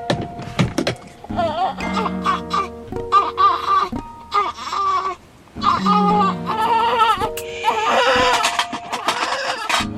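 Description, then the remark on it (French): A newborn baby lying on its mother cries in a series of strained, wavering wails with short pauses between them, loud and continuous for most of the stretch, with a few soft thumps. “Je suis en train de manger de la chocolade avec un bébé qui pleure sur moi et en train de me faire recoudre la vulve en même temps.”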